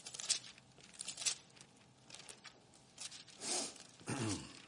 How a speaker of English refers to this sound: Love to hear the pages turning. 2 Kings chapter 18.